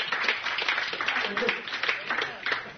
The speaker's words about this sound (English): Clap them hands. Come on, clap them hands and pray.